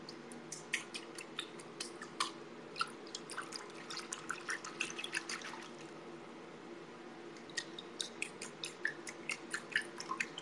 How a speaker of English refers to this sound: How do we know you're really in a bathtub? You wanna hear the water sounds? Ugh. You're. Do you hear it?